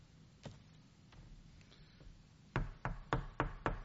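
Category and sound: household object, knocking on a door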